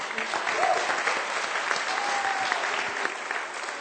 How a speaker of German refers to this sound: Also für, ja, ihr dürft klatschen.